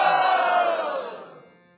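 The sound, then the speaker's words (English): A loud, sustained roaring battle cry from a son late at night, broad and harmonic, holding steady before trailing off over nearly two seconds, with no speech. “But even louder than that, he would roar with all the power.”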